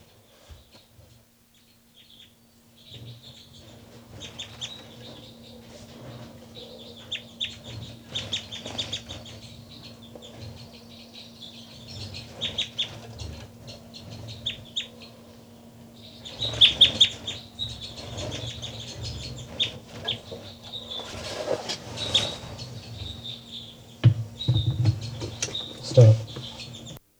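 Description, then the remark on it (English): Soft, high calls from two birds, numbered 273 and 274 and being recorded, chirp in scattered bursts, growing busier toward the end, over a low steady hum and faint rustling. The calls stay quiet and delicate throughout. “Start recording now, birds 273 and 274. Very soft calls, 273 first, then 274.”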